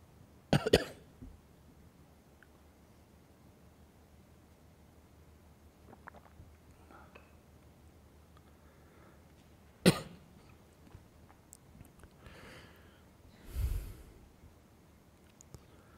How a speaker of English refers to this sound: A little bit of an itchy throat right now. I care for my throat so much, I'm going to just pause to take a sip of water.